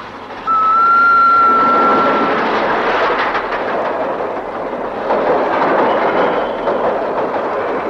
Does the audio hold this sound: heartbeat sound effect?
no